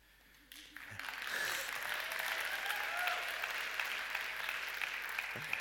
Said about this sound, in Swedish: lite klen applåd.